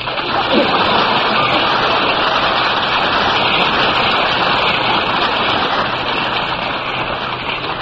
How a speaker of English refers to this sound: I may be wrong, but I think that applause was for me. All of it? I think so.